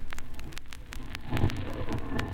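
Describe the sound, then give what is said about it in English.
A low, steady humming that seems to come from inside a strange object drones beneath crackling static, with sharp clicks and pops breaking through at irregular moments. No voices are heard. “It's a curious humming sound that seems to come from inside the object.”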